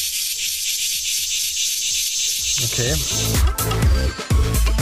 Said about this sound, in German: alle 17 Jahre ist das eben in den USA so, dass dort so diese Zikaden da rauskommen.